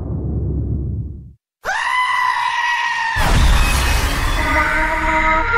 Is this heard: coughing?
no